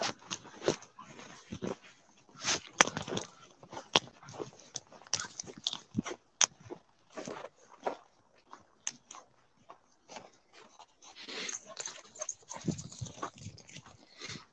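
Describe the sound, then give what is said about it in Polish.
A dog bites and tugs at its owner's phone, making irregular scraping, clattering bursts and snuffling noises throughout, with no one speaking. “On tak szarpie tym telefonem, że po prostu siłą rzeczy roz.”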